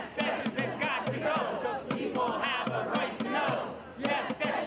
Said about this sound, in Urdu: Attorney general Jeff sessions کے استعفے کا مطالبہ کرنے کے لیے آج واشنگٹن میں محکمہ انصاف کے باہر 100 کے قریب مظاہرین بھی جمع ہوئے. مظاہرین نے ڈرم کے ساتھ نعرے بازی کی.